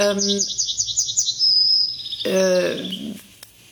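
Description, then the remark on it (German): A yellowhammer sings a fast, hoarse trill of repeated notes ending in a drawn-out buzzy note, clear, followed by a brief voice-like sound. “Das hier ist eher was Schmetterndes.”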